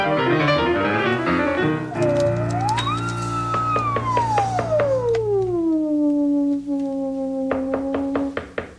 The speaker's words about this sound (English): Oh, that's somebody knocking at the door. Let's see who it is.